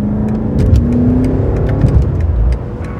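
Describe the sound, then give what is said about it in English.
The engine of Gladwell's own 2003 BMW M5 sports sedan pulls hard under acceleration, its deep, rumbling drone rising steadily in pitch, loud throughout, with no voices over it. “And we're doing it at the wheel of Gladwell's own 2003 BMW M5.”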